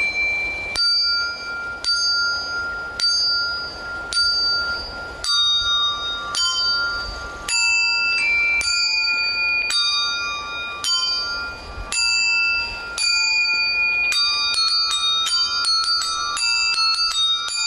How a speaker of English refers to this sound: Here she is playing the Carol of the Bells on a suit of bells attached to her clothing.